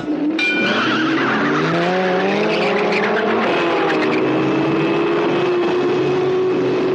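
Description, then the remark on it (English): Several race car engines from the film Death Race 2000 roar and whine at high pitch, rising and shifting in tone, with tires squealing sharply throughout in a loud, continuous burst of motor noise. “And now, my children, the drivers are ready, the world is waiting.”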